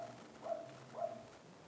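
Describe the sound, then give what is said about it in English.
Two muffled barks from a puppy upstairs, about half a second apart, sound faint as they come through the ceiling, over a quiet background hum with no talking. “There is a doggo upstairs, I think. I'm barking all day.”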